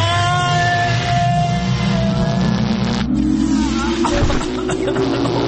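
A loud sci-fi machine powering up: layered humming tones and a rising, revving whir that climb steadily, then a brief whooshing shift before the whirring continues. No one speaks.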